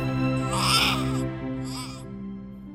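An infant cries in two strained, high-pitched wails, the first longer and louder than the second, while being rocked in a rocking chair by someone trying to calm it, over a steady low hum with no talking.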